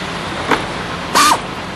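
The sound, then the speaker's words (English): Someone repairs a truck at night: a steady low rumble runs throughout, broken by a soft knock and then a louder, brief metallic scrape with a ringing tone, without any voices. “Well, I have to fix this truck.”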